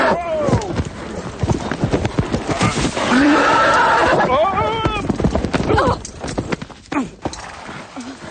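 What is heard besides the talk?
horse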